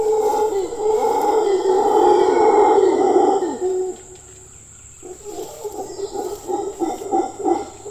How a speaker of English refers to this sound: using the landscape to amplify their signals for communication. There's a subtlety to it. And I think it's something that birds in particular, but also things like howler monkeys, they understand this, and the power of their voices is pretty intense.